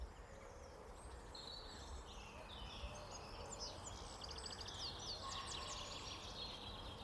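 Birds call over one another by the River Eithen, pheasants, robins and a wood pigeon, with thin high chirps and warbles rising through a steady outdoor hiss. Faint and continuous, with no one speaking.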